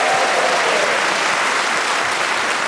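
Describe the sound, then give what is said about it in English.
The live in-person audience of the panel show Just a Minute claps and cheers loudly and steadily, a dense wash of applause with no talking over it, as players Paul Merton, Zoe Lyons, Ria Lina and Giles Brandreth are introduced. “welcome, of course, to our wonderful live audience who are with us in person today”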